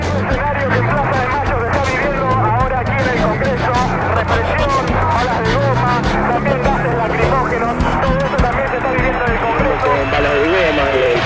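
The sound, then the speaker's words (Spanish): A loud, chaotic street scene: a crowd running toward Avenida de Mayo in a dense rush of footsteps and shouting voices, with horses' hooves clattering as Federal Police mounted officers give chase, while gunshots are still heard, steady throughout. “La gente va corriendo hacia la Avenida de Mayo y atrás corren los efectivos de la policía montada.”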